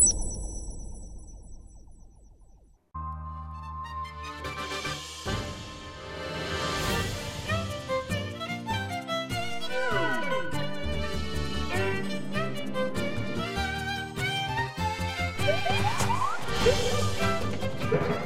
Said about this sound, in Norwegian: Livlige toner fra trailer, fra gameplay til Zelda Triforce Heroes